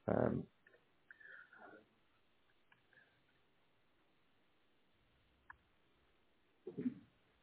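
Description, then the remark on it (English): Sparse, soft keyboard clicks as someone types up a statement, a few isolated keystrokes spaced apart, with brief muffled voice or movement sounds at the start and end. “If you do go quiet, I'm typing all this up onto your statement.”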